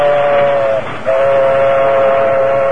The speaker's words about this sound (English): It was mid-morning when a locomotive and a caboose, the combination known to railroad men as a caboose bounce, moved west along the tracks.